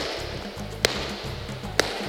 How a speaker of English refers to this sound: I'm going to clap three times. You'll hear the echo that's been created by the sound system.